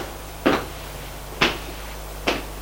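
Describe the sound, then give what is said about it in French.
An apartment door on a stairway landing opens, heard as three short, sharp clunks spaced about a second apart over a low steady hum, moderately loud, with no voices. “une porte s'ouvre.”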